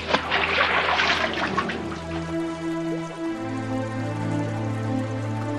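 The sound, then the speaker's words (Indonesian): A loud watery splash bursts out at the start as Dewi Sri throws herself into a river, then settles into steady rushing, trickling river water, with a low sustained musical drone humming underneath throughout. “karena ketakutan dan tidak ada jalan lain, akhirnya Dewi Sri menceburkan diri ke dalam sungai.”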